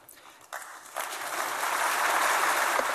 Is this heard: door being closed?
no